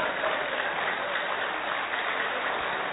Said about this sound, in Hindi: ताली किसके लिए बजा रहे हैं? अपनी बात सुनकर अपने लिए ताली बजा रहे हैं, ये तो मैंने आज तक नहीं देखा।